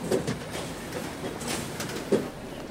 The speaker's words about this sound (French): On s'emmerde dans ce métro, il n'y a personne, il n'y a que nous.